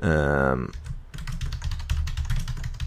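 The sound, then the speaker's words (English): Rapid, clicky keystrokes on a computer keyboard as someone types up a list, pattering in a quick, uneven rhythm, fairly loud, right after a brief sustained voiced tone at the very start. “Listen to how clicky my keyboard is. It's so clicky, which I don't know if I like or not, but it feels good to type on it, but it sounds so loud.”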